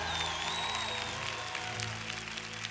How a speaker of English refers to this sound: Oh, come on, give the Lord a bit of a hand clap.